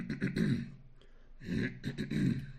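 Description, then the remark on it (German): Two drawn-out, gravelly throat clearings from one voice, separated by a brief pause, each rough and moderately loud, with no words spoken. “Ja, am schlimmsten finde ich wirklich, wenn dieses Räuspern aneinander geschnitten wird, dieses”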